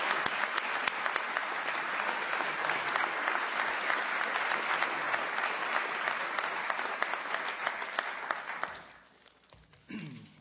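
Sustained audience applause, a dense crackle of many hands clapping at steady loudness for about nine seconds before fading out, followed by a brief murmur.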